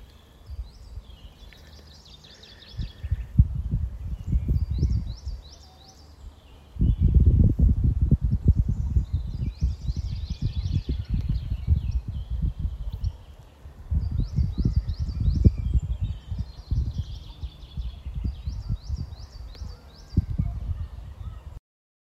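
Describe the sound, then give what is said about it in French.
Small birds chirp and trill in quick repeated bursts outdoors on a sunny morning, fairly faint, over low rustling and crunching noises like footsteps or movement. “Écoutez les petits bruits de la nature, les petits oiseaux.”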